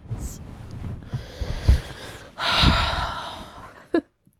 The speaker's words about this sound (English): Oh yeah, the sniffing's very attractive.